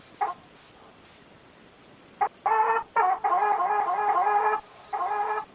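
A chicken clucks loudly: a brief squawk, a pause, then a run of harsh, drawn-out clucking calls with short gaps between them. No one speaks.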